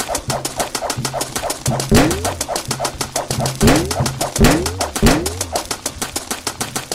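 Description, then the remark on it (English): A bouncing-ground sound effect from the video game Balloon Master: four springy, upward-sliding boings spaced irregularly over a fast, steady ticking pulse and low buzzy game music, fairly loud, with no one talking. “Oh, no, that's the sound for the bouncing ground.”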